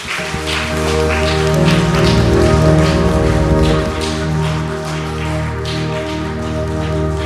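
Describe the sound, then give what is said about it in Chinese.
A crowd applauds God for a message after a prayer, clapping steadily for several seconds, a dense, loud patter of many hands that swells early and then holds, with sustained keyboard chords ringing underneath. “我们为了这个信息给神一个掌声好吗？”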